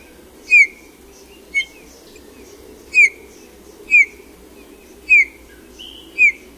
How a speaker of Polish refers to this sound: Głos kontaktowy Gila wydawany w ciągu całego roku to ciche, miękkie, fletowe gwizdy.